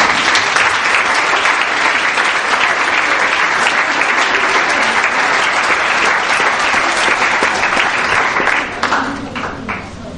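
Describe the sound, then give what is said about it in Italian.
Dense, sustained applause from a large crowd at an award ceremony for the under-8 category, loud and steady throughout, with individual claps blurring into a continuous roar that thins slightly near the end. “Un applauso per questo.”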